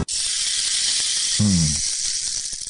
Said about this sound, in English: It's enough rain stick for today.